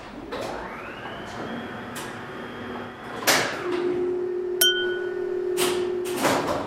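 elevator door sliding open

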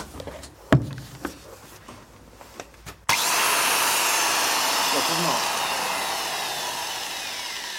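angle grinder running

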